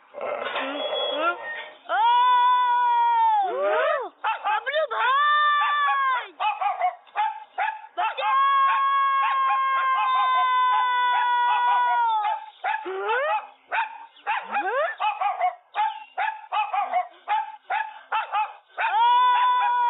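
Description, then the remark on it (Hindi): A dog barks and yips in loud bursts, broken up by long drawn-out whining howls, continuing with little pause for the whole stretch. “नहीं गुलाम रसूल भाई, ये कुत्ता मेरी नकल उतार रहा है, मैं इसको नहीं छोड़ूंगा।”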